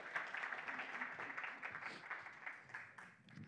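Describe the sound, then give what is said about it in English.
An audience claps steadily to welcome a couple coming up to speak, a dense wash of many hands sustained at an even level for a few seconds before easing slightly, fairly soft overall. “You can welcome them. You can clap for them.”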